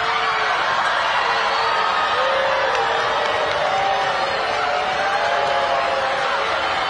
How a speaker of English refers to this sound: And the boos just went on. She's just coming up on stage now. More boos. Obviously, there's a lot of applause, too, but she's waving at people and looking very fashionable.